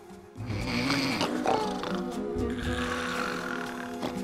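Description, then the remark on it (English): Loud, rumbling snores from llamas sleeping in a farm barn, coarse and throaty with a continuous droning quality, rising and falling over a few seconds with no talking. “Later, the sheep are shivering in the rafters as they try to sleep through the llamas snoring.”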